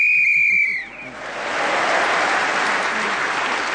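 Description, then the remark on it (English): A sharp, sustained whistle blast ends a round of a timed speaking game, sounding for about a second, immediately followed by a swell of loud, steady applause from an audience that continues to the end. “Bill Bailey was then speaking as the whistle went”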